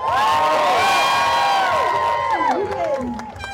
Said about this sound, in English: We are about to cross and begin. Good luck to you guys. Have the best time. Okay, red. No going back. I'm going to ask you to cheer, but I want you to be better than all the way to top of the corner. So, red 8, give me a cheer.